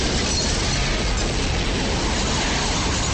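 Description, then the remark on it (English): A huge explosion roars loud, a dense rumbling blast that stays heavy and sustained for the whole few seconds, with no voices, as squad cars explode. “There's a huge explosion.”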